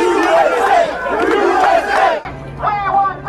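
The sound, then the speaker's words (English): A large crowd of protesters cheers and shouts loudly and continuously as police approach the scene and form lines, many voices blending into a roar, before an abrupt cut to a quieter stretch of scattered crowd voices. “There were cheers and applause as police approached the scene and formed lines.”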